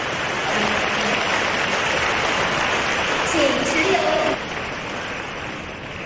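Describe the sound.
An audience at a Guan Yin Citta (Xinling Famen) gathering claps to thank a fellow practitioner for a speech, in a dense, steady burst of applause that holds evenly for about four seconds. It then thins to a softer patter, with faint murmuring voices underneath.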